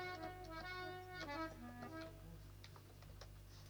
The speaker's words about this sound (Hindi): Bag खोलता हूँ राजन।